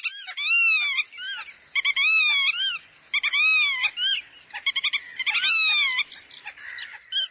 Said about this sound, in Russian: большой веретенник, такой голос, как плач.